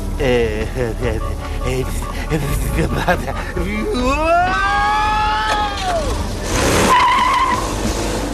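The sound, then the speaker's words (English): A car chasing a man home races with loud, drawn-out tire screeches rising and bending in pitch as it skids through turns, engine noise running underneath and voices mixed in. “now my car chased me home and says she wants to marry me”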